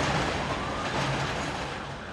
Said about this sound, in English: A block away, the elevated subway train runs right down the middle of Jerome Avenue.